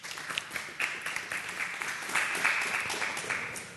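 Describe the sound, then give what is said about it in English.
A crowd breaks into steady applause, many hands clapping together in a dense, crackling wash that swells and holds at a moderate level for a few seconds. “So he says here, well, yeah, clap for that.”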